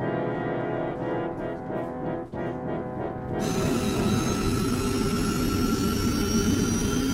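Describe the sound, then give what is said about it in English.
A submarine's engines, running in reverse, drone in a low, steady rumble with a humming tone; about halfway through, a loud rushing surge of strong underwater current flowing from the Red Sea to the Mediterranean through a tunnel swells in and roars continuously over the machinery. “Our engines are in reverse, but the current from the Red Sea to the Mediterranean is so strong that we are, in effect, rafting on white water, except that we are underwater.”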